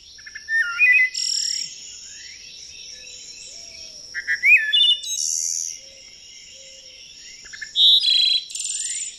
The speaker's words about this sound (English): And then if we can get the wood thrush up, it's just a pretty bird song. Let's try the wood thrush. Wood thrush.